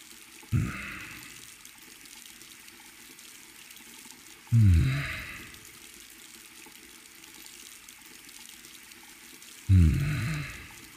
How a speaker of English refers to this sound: Oh, before I put this on, can you turn off the water as soon as it reaches this level here? Thank you.